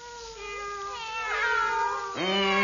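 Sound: cats meowing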